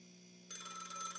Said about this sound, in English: Will somebody get that phone?